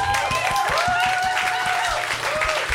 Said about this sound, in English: I don't know if we're applauding your awesome. I don't know either.